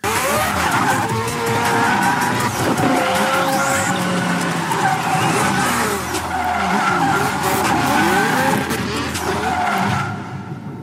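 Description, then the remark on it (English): The tires of a red Mazda RX-7 Red Bull race car skid and squeal continuously over a loud, steady engine roar, with sweeping pitch changes as the car slides, fading out abruptly near the end. No talking. “It's like a Mazda RX-7 or whatever. So, I mean, it's a Red Bull car.”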